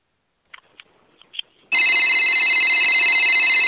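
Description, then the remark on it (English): A telephone rings loudly and steadily with a bright, high electronic trill, preceded by a few faint clicks and taps. No one speaks. “Somebody please fucking answer that already.”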